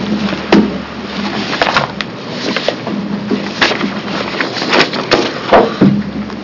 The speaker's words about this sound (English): I'm going to close the work session on Senate Bill 348 and shuffle some papers here momentarily.